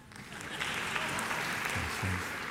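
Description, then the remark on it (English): An audience breaks into applause, a dense wash of many hands clapping at once that swells quickly and holds steady at a moderate level, with a faint voice briefly surfacing near the end. “If you clap, I'll move on.”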